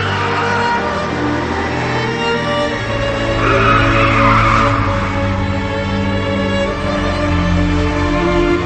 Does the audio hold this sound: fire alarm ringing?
no